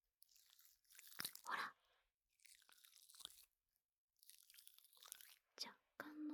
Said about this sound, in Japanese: まず最初は普通のジェルみたいな音なんですが、だんだんシュワシュワしてくるんです。